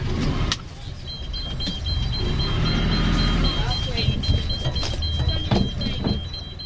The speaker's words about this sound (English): We slowly edged towards the pontoon. The water was very shallow. The depth alarm was beeping at us impatiently, as if to say, "Time to turn around now."